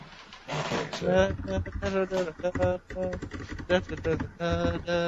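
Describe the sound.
Rapid clicking of keys on a computer keyboard as someone pulls up David Fincher's filmography, steady, running under louder talking voices for the whole stretch.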